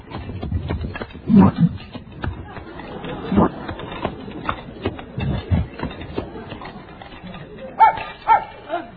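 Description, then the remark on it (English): A dog gives several loud, irregular barks, spaced a second or two apart, over a steady messy background of gulping and gobbling food sounds as it eats the contents of an open refrigerator. “He cleaned out the refrigerator.”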